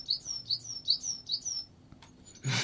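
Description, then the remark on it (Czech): A forest bird song played from a children's hardcover sound book: a quick series of bright, high chirping notes in a steady repeating rhythm, clear, then a short burst of rustling noise cuts in at the end. “tak kromě toho ta knížka má samozřejmě i zvukový doprovod.”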